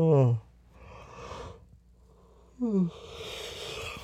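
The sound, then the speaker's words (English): A drawn-out yawn with a falling voiced groan, breathy exhales in between, then a second shorter yawning sigh trailing into airy breath, from a person being woken up early; no words are spoken. “I'm only yawning because you try to wake me up.”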